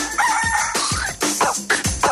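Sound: rooster crowing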